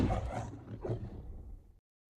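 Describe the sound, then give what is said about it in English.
A lion lets out a deep, rumbling, loud roar in the Metro-Goldwyn-Mayer film studio logo, swelling twice in under two seconds before cutting off abruptly into silence. “The Metro-Goldwyn-Mayer logo features a lion.”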